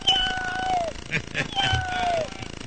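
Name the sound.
cat meowing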